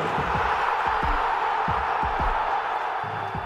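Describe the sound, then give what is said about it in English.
A large stadium crowd roars at an Atalanta goal in a dense, steady wash of voices at constant loudness, with a few dull low thumps scattered underneath. No single voice stands out. “But not only, the crowd called the goal.”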